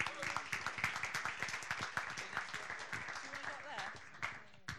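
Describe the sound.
A room full of people claps steadily, dense overlapping hand claps forming sustained applause, with some murmuring voices mixed in beneath it.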